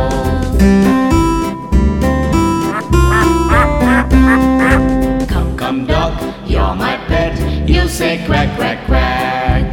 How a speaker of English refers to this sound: Come duck, you're my pet, you say quack, quack, quack.